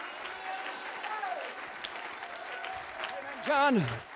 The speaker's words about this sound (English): He's the Almighty God. Somebody clap to the Almighty God today.